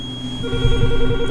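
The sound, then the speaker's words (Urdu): A telephone rings with a steady electronic tone as a call comes in to the radio station Radio Masih Ki Awaz, sounding clearly and continuously, while some low muffled bumps come in partway through. “ٹیلی phone call لے لیں.”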